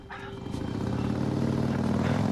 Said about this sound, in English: He looks towards where the sound of the motorbike is receding.